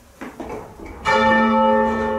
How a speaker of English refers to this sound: Each bell in the tower is recorded in turn until all bells are captured. Then, finally, the bells are lowered.